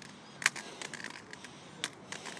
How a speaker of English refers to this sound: What's that squeaking noise? Is it a bird? Bird. Huh. It's a bird. We get seagulls around here. We're only about 40 miles from the coast. No, less than that, actually. So sometimes you get seagulls who've lost their way a bit.